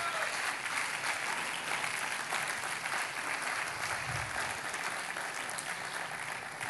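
Steady applause from a sizable audience after a presentation, dense continuous clapping that holds at an even level throughout, with no voices standing out.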